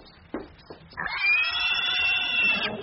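Pigs grunting: two short, rough grunts, followed by a long, loud, high-pitched squeal lasting nearly two seconds. No voices.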